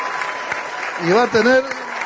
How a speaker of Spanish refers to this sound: Así que pido un aplauso especialmente por él, porque va a ser el que va a cuidar.